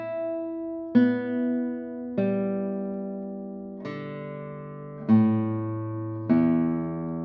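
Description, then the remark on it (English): Single notes plucked on a guitar, one at a time, about six in slow succession. Each rings out with a bright attack and a long, harmonically rich sustain, changing pitch from note to note. “It's just enough to play single tones.”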